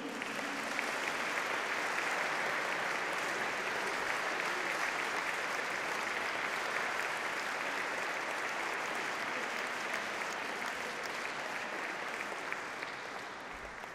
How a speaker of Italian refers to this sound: Mi corre l'obbligo di un applauso anche per l'oboe,